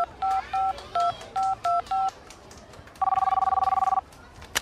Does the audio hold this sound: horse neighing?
no